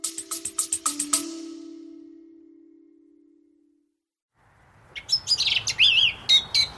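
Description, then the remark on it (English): A song thrush sings loud, clear phrases on a farm in the English countryside: a rapid burst of repeated notes, then a pause with a fading hum before more bright, varied whistles over a soft outdoor background. “One of the most delightful and evocative sounds of the English countryside, Chris, the song thrush.”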